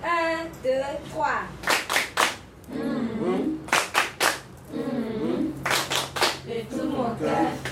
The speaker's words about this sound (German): 1, 2, 3. Ein Klatschspiel soll die Situation auflockern.